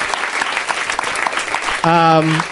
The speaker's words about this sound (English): Let's one more round of applause for my guests. Thank you so much, guys. That was a lot of fun.